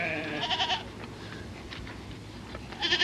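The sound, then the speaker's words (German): Goats kept for milk and wool in enclosures in the gravel desert between refugee camps in southern Algeria bleat in wavering, nasal cries, a loud call at the start and another at the end, with fainter bleats between, over a constant low rumble of wind and outdoor noise. “Zwischen den Camps nichts als Schotterwüste und Gehege voller Ziegen, die für Milch und Wolle sorgen.”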